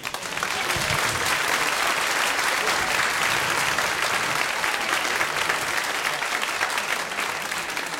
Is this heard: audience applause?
yes